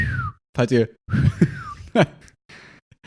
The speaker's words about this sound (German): Ich kann nicht so gut pfeifen.